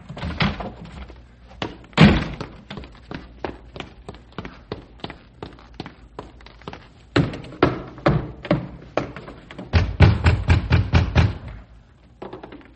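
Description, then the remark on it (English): Loud, rapid pounding on a house door in the middle of the night, fists hammering in hurried bursts with short pauses, insistent. “Come on, open the door.”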